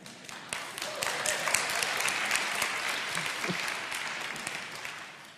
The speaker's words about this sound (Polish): Dziękuję bardzo. Ale rozumiem, że te oklaski są dla Pana, który wspomógł.